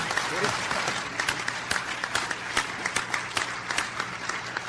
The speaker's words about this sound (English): Can we all give a round of applause and thanks?